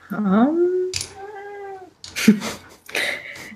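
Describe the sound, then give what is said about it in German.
A male cat meows several times in a row, fairly loud, with drawn-out tonal cries that rise and fall, separated by brief pauses. “Wir verstehen ihn zwar nicht, aber er hat bestimmt sinnvolle Dinge beizutragen.”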